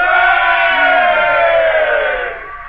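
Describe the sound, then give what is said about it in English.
A large crowd, as the people shouting at the wall of Jericho, roars in one sustained, loud shout, many voices blending into a dense, steady wall of sound that holds for over two seconds before beginning to fade. “And it came to pass, when the people heard the sound of the trumpet, and the people shouted with a great shout, the wall of Jericho fell down flat.”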